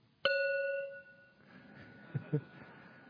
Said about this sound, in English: But finally the sweetest sound you'd ever heard, the sound of the gong.